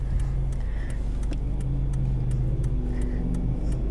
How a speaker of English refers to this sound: Oh shit. There's a truck next to me. Okay.